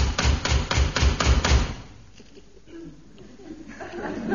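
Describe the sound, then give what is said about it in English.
About seven loud, evenly spaced knocks on a door land in quick succession, then stop, leaving a quiet stretch with faint murmuring and what may be a soft chuckle. “Must be important for him to keep on knocking like that.”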